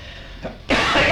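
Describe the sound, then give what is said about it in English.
A short, soft throat sound is followed by a loud, harsh cough burst, alone with no talking. “I got to cough a little, I guess.”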